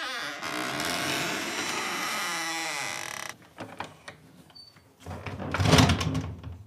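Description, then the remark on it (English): A barn door is slowly closed from the inside, its old, rusty hinges giving a long, loud, wavering squeak, followed by a few wooden knocks and a heavy, rough scrape as it settles. “His shoulders automatically tensed when the old, rusty hinges squeaked.”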